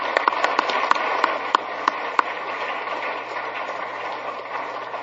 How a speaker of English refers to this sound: Doctor, if you're here, would you please rise? Thank you for your service. Let's give him a round of applause anyway.